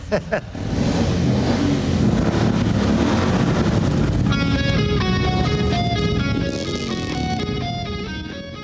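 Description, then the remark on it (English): A loud, continuous roar of motorcycle engines at the White House kicks in after a brief moment and keeps revving. Stepped, rising and falling tones emerge over the rumble in the second half. “Get those engines started. I want to see you guys drive around and drive as fast as you can, but don't get hurt.”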